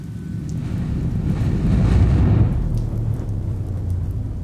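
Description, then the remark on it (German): Steady rain hisses continuously beneath a deep, rumbling low roar that swells louder around the middle before easing back, like a stormy downpour with thunder or wind. No voices. “Ich stand mit dem Brief in der Hand im Regen.”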